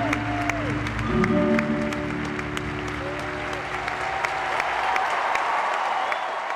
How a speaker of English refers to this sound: She knelt on the ice and put her face in her hands as the tears came, and the crowd of 15,000 people stood to applaud her.